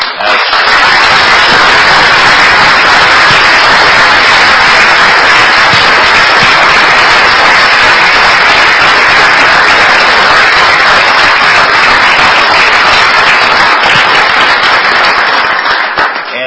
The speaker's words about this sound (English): So if you will, please join me in giving her a huge round of applause.